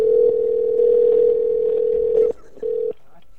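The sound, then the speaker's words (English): During a phone call to a Walmart Supercenter, a steady telephone tone hums loudly and continuously for a couple of seconds, breaks off, then sounds once more in a short burst before fading to faint line noise. “I can barely hear you, and there's like ringing in the background.”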